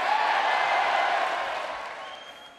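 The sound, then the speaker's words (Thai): Republican lawmakers at Donald Trump's speech to a joint session of the US Congress cheer, applaud and chant "USA" in a dense, steady roar of voices and clapping that holds strong, then gradually tapers off toward the end. “ทรัมป์เริ่มสุนทรพจน์ด้วยการประกาศว่าอเมริกากลับมาแล้วซึ่งนักการเมืองพรรครีพับลิกันในสภาก็ส่งเสียงเชียร์ด้วยการตะโกน USA กันอย่างต่อเนื่องนะครับ”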